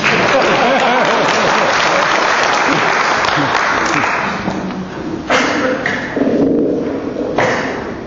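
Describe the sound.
A crowd claps steadily for several seconds as the next company speaker is introduced, a dense, loud patter that thins out toward the end as a voice or two starts to come through.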